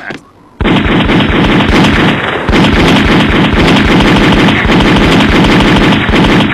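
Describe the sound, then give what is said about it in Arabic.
A sustained barrage of rapid gunfire, dense overlapping shots cracking continuously for several seconds after a brief quiet start, loud and unbroken, with no voices. “رماية ممتازة، شكرا للمساعدة يا صديقي.”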